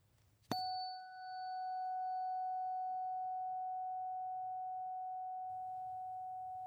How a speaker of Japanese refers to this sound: この音は心を解放してくれてポジティブな気持ちにさせてくれる周波数。この音を心が望むならこの音叉を選んでください。